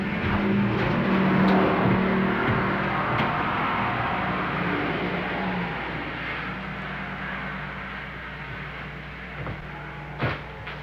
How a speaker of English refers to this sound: Somebody coming? I thought I heard a car.